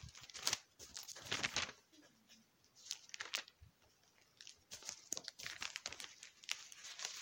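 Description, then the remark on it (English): Crisp rustling of thin Bible pages being turned to 1 Peter chapter 1, verse 3, coming in several quick papery bursts with brief pauses between them, with no talking. “I'm just almost done with us turning pages.”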